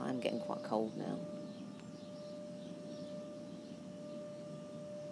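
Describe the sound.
A steady aeroplane drone hangs overhead with a faint humming tone, continuing evenly after a person speaks briefly at the start.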